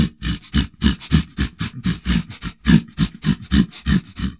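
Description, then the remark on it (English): A brown bear roars in a rapid series of rough, throaty bursts, about three per second, loud and gravelly with a low growling base, continuing steadily without pause. “There was a brown bear in the woods.”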